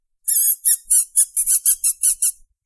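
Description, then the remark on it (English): A person makes a rapid series of about nine high-pitched, whistling squeals, squeaky and mouse-like, each short burst loud and clear with no talking, made as a call to get her to come over. “She does not respond to her name, but will respond to me when I make a high-pitched, whistling, squealing noise when I try to call her over. This is the noise.”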